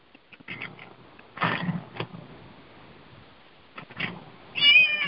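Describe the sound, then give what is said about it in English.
A cat meows and whines several times, with scattered bursts of whiny cries and a longer, louder meow at the end, amid light shuffling noise. “Whiny butt. What are you whining about? Meow.”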